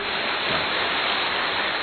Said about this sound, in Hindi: जोर से तालियां बजाइए।